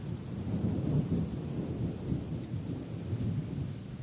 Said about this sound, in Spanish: La tormenta está muy cerca. Sí, cuantos menos segundos contemos entre relámpago y trueno, más cerca estará.